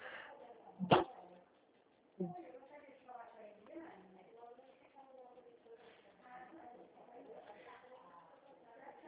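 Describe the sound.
A small pet dog gives two sharp barks a second apart, then softer whimpering carries on beneath steady conversation.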